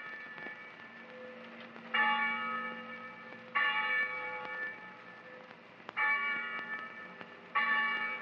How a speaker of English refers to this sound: When the bell rang for night prayers, we went into the chapel.